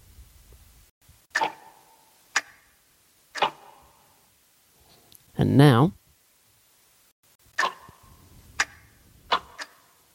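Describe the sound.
Loud, hollow ticks of two clocks, one an old grandfather clock, land about once a second with a resonant knock; one clock runs slow and slips slightly out of step. A person speaks briefly midway through.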